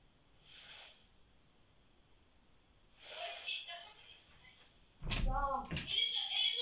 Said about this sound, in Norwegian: Jo, kom hit og slutt å leke med døra. Kom hit.